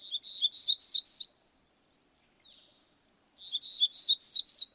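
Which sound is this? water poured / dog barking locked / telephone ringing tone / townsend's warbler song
townsend's warbler song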